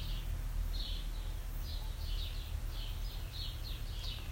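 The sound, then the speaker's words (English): Faint, repeated high chirps of birds calling, scattered irregularly over a steady low rumble that sounds like large machinery across a river. “And the bird calls.”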